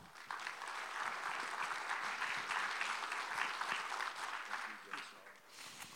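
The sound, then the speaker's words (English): Sustained audience applause, a dense steady wash of many hands clapping at once, fairly loud and continuous for several seconds before easing slightly near the end. “So, would you give a round of applause to our dear friend,”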